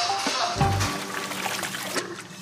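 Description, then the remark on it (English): Meltwater from melting snow pours and splashes steadily into a flooding restaurant kitchen with clogged drains, a continuous hissing gush with a brief low thump early on and no pause throughout. “I came in this morning, the kitchen's filling up with water. The snow is melting in the back of the restaurant.”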